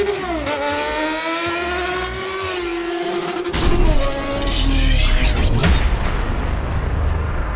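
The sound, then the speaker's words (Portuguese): A motorcycle engine revs at a motorcycle show with lights and special effects, with a rising, whining pitch, then gives way to a loud, roaring burst of noise like a heavy impact. The sound stays forceful throughout. “Show de luzes. Efeitos especiais. Show de motos.”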